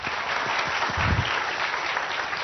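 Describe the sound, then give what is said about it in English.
An audience applauds steadily to welcome the guest at the start of an evening event, a dense wash of many hands clapping at once, fairly loud and sustained without a break across the whole stretch. “Round of applause!”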